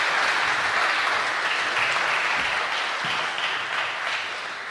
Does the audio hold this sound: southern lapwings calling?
no